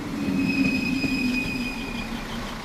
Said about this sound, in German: Garding auf der Halbinsel Eiderstedt. Die Regionalbahn aus St. Peter-Ording fährt ein in den kleinen eingleisigen Bahnhof.